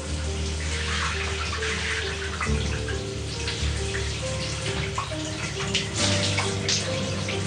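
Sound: running shower water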